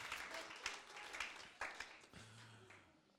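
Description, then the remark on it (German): An audience applauds three volunteers returning to their seats with dense, sustained clapping, a crowd of many hands, moderately loud, tapering slightly toward the end while a faint low voice murmurs underneath. “Gebt ihnen mal einen Applaus für das Spontane.”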